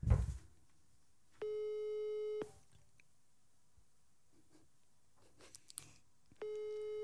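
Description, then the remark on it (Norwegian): A telephone ringback tone of a call placed to someone in the USA sounds twice, each a steady electronic burst about a second long separated by a longer pause, with the call going unanswered; faint clicks in between, no one talking. “Da håper jeg han på trass, ikke tar den. Og hvis ikke Morten tar nå, så ringer vi bare til Stian.”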